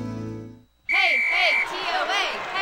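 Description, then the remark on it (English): A crowd bursts into loud cheering and yelling, the TOA cheer for Tennessee Orthopedic Alliance, after a brief lull, with a shrill sustained whistle rising above the roar for about a second as the noise keeps going. “Oh, the TOA cheer.”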